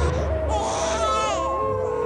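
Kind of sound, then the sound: human body sound, baby crying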